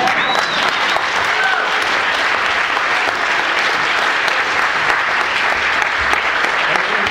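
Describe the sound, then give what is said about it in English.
An audience applauds steadily for several seconds to welcome a woman speaker, a dense, even wash of clapping at constant loudness with faint whoops or cheers briefly rising above it near the start. “So all the applause for me. But my hero here, please extend a hearty welcome to her.”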